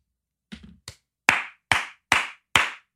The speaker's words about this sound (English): Yeah, honestly, like slow clap for Chris Cuomo.